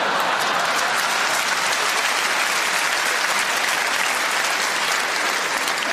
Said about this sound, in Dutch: Ik zeg, dan krijg ik nog een applausje voor geeltje.